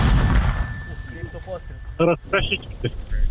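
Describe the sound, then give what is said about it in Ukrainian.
An artillery gun fires a single heavy, booming shot right at the start, its low rumble rolling out, followed by brief raised voices. “Постріл.”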